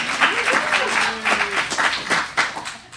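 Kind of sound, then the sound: crowd, audience applause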